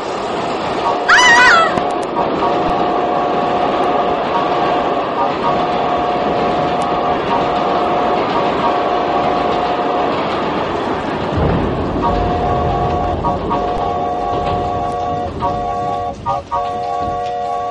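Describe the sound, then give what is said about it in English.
A train rumbles loudly and steadily throughout while its whistle sounds in long, sustained tones, with a brief high-pitched cry near the start. “Eyes were wild with surprise as the train's whistle blew.”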